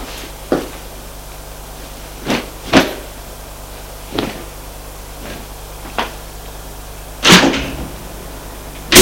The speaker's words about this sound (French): Elle entend la porte de son appartement se refermer.